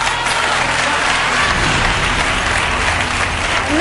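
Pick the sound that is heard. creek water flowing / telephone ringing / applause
applause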